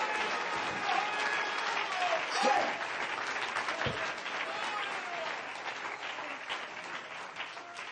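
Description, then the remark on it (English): A worship audience claps steadily unto the Lord for several seconds, a dense, sustained patter of many hands with a murmur of voices underneath. “Does anybody believe that tonight? Clap your hands unto the Lord.”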